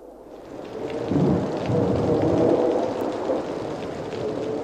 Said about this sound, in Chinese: 外面的风雨声似乎小了很多，到后来竟变得悄无声息了，四周静寂的令人窒息。